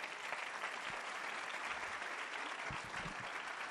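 An audience applauds steadily for a few seconds for the speaker's wife, a dense wash of many hands clapping at once with a constant loudness and no voices standing out.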